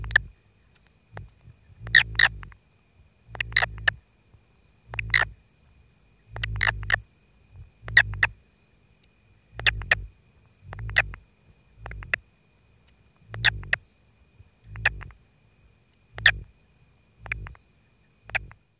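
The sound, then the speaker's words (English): A male southern toad, held lightly around its midsection between a thumb and forefinger, gives a steady series of about a dozen short squeaky release calls, roughly one every second or so, each carrying a low vibrational buzzing hum, clear with no talking. “Listen for the vibrational hum that accompanies his squeaky release calls.”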